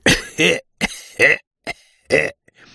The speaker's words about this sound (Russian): И старшина деликатненько закашлял.